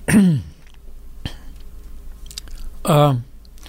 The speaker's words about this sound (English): Well, I'm going to clear my throat for a second here.